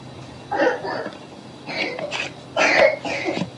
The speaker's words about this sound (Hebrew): שיעול.